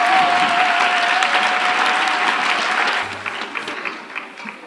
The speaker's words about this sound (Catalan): Un aplaudiment per ell.